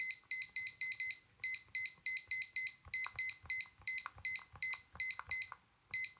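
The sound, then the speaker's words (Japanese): A digital timer beeps rapidly and shrilly in quick bursts of short electronic tones, fairly loud, with soft clicks and handling noises underneath as its buttons are pressed to set it to 20 minutes. No one speaks. “はい、じゃあタイマー持ってきてるのでタイマーを20分にセットします。”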